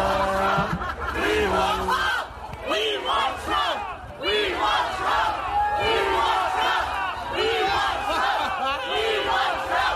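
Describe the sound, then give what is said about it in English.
A large protest crowd in Ottawa, Canada, waving Canadian flags and shouting and chanting "We want Trump" together, many overlapping voices rising in loud repeated cries that fill the whole clip, with bursts of yelling and some scattered laughter. “Everybody's waving Canadian flags, screaming, "We want Trump."”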